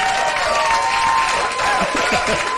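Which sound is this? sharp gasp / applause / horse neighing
applause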